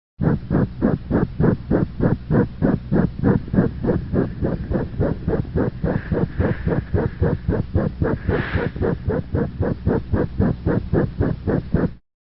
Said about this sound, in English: The murmur of VSD is difficult to distinguish in both sound quality and location from that of tricuspid valve regurgitation. Listen now to this recording from the right sternal border of a cat with a ventricular septal defect.